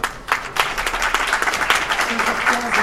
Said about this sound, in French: Donc ce film est fait par un monsieur, je voudrais qu'on applaudisse ici,